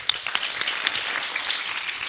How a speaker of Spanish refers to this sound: Bueno, un aplauso, ¿no?